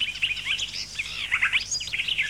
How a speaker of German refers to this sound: Gartengrasmücke.